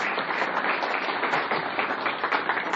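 A crowd applauds steadily, a dense wash of many overlapping claps holding an even, fairly loud level throughout with no voices over it.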